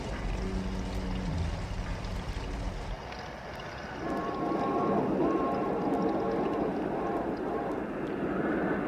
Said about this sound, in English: Hear that whistle out there? That's the Terror Train, the old Spook Limited. Tonight it's right on schedule.